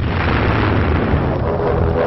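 Continuous heavy rumbling blasts from bombs dropped by diving Stuka dive bombers bombing and machine-gunning the enemy in support of ground forces, a dense, loud low roar with crackling bursts layered throughout, no clear gaps between impacts.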